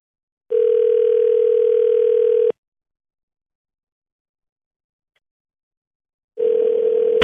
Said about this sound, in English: All right, so we're going to dial. We're going to get your dad on the phone and make this happen on Breaking Bad News.